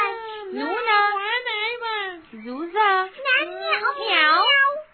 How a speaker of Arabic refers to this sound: القطقوط ليس في البيت. مياو.